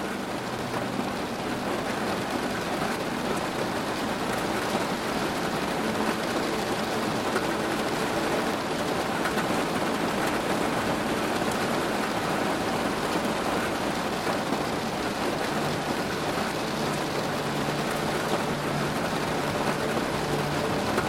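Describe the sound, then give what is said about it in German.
Steady rain, growing heavier outside, drums on a roof in a dense, continuous patter, even and unbroken throughout, with no voices present. “Draußen wird der Regen stärker und du kannst das leise, beruhigende Trommeln der Tropfen auf dem Dach hören.”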